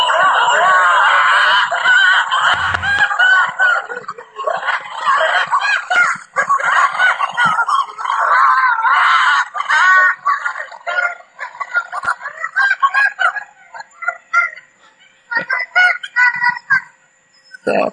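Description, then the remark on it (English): A family of six wolves, two parents and four pups, howls together, recorded in August, in a loud, chaotic chorus of overlapping high, wavering howls, yips and squeals that runs almost continuously, thinning into broken bursts toward the end. “But that is six wolves, oh my goodness. Two parents and four puppies trying to howl.”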